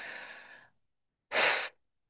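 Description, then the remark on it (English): Audible breathing during a deep breathing exercise, with no talking: one airy breath that trails off, a short pause, then a louder, sharper breath of about half a second. “Blow out long and hard.”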